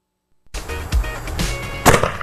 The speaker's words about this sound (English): Oh, we have a Polish cannon shooting a tennis ball, everyone. You guys never seen the phenomenon of the Polish cannon.